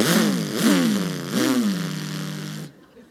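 A voice imitates a lawnmower engine sputtering to life, three rising revs followed by a sustained buzzing drone that cuts off abruptly.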